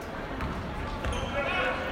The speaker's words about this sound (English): The murmur of the crowd, the squealing of tennis shoes, and an announcer were there, but there was no loud music, no pep band, and no flashing lights or graphics at Saturday night's game.